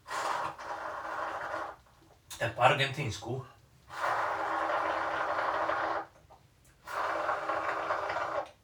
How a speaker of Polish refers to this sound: I bardziej sztuka właśnie polega na tym siorbaniu. Co swoją drogą w krajach Ameryki Łacińskiej między innymi znaczy, że wam smakuje. To jest wręcz akt kultury, podobno.